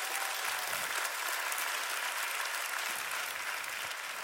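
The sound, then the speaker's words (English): An audience applauds steadily during a sermon, dense overlapping claps filling the whole stretch at an even, sustained level without any voices rising above it. “Come on, somebody, clap it up for God's plan in your life.”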